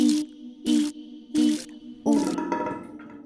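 Water spurts from a bathroom shower running hot and cold water in three short, even bursts with a low humming pipe tone, then gushes into a steadier, gurgling flow. Fairly loud, with no voices.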